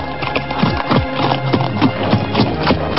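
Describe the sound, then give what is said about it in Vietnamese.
Two people riding horses side by side, the hooves clip-clopping in a steady, even rhythm, fairly loud, with a faint whinny mixed in and no voices. “Hai người lặng lẽ cưỡi ngựa sóng nhau mà đi, không ai nói thêm câu nào nữa.”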